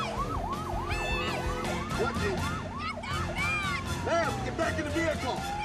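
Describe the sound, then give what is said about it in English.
A police car siren whoops in quick, repeated rising sweeps, loud, then shifts into a slower wail, over a dense rumble of traffic and indistinct voices. “She notices the police car pulling ahead and gestures to the officer.”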